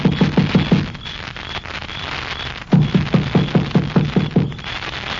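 A quick run of knocks on a door, about half a dozen rapid raps, a pause, then a longer, steady series of firm, hollow knocks with no voices.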